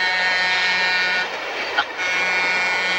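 A train heads down the track with a steady, loud rumbling clatter that fills the whole clip, dipping briefly in the middle before continuing at the same level.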